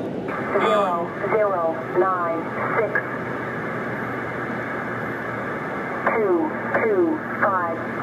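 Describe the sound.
A shortwave numbers station: a tinny female voice reads short bursts of numbers through a steady bed of interference, hiss and hum, pausing for several seconds of static between groups.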